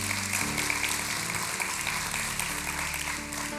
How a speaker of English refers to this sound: Y'all can clap for that real quick, because God is moving.